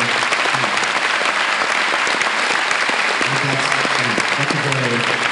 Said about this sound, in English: And again, a big round of applause for our two super queens.